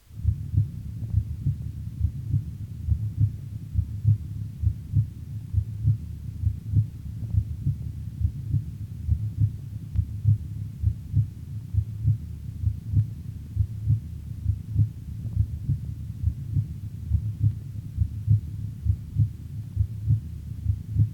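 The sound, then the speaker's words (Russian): Steady, regular heartbeat heard through a stethoscope at the pulmonary valve auscultation point, second intercostal space left of the sternum, paired low thuds repeating at an even pace over a muffled hum, with no talking for about twenty seconds. “В третьей точке аускультации, во втором межреберье, слева от грудины, соотношение тонов сердца такое же, как и над аортой.”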